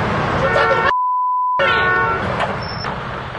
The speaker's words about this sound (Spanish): Me están tocando la bocina. ¡Corte, tocar la bocina!